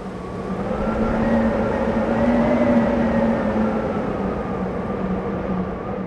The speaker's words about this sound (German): Wenige Zeit später wütete das Gewitter über der Burg Schönfels. Es donnerte, blitzte und mit einem lauten Krach flogen Fenster und Türen der Kapelle auf. Und ein extrem starker Wind strömte durch den ganzen Raum.